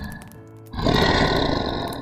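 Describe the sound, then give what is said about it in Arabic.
A low, rumbling animal growl that swells abruptly into a loud, harsh, raspy snarl and holds steady for over a second, with no talking. “سمعت صوت زمجرة، لفت عشان اشوف دراع رفيعة جدا بتتمد من الضلمة عشان تمسك الديب من ديله وتشده بالراحة بره دايرة الضوء.”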